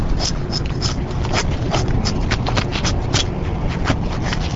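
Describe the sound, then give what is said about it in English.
A draw knife scrapes bark from a standing ash tree in Wisconsin in quick, repeated rasping strokes, fairly loud, with a steady rough noise underneath and no talking, as an Agriculture Department worker strips a 6-inch ring of bark to girdle the tree. “uses a draw knife to strip a 6-inch ring of bark from around an ash tree that's still standing.”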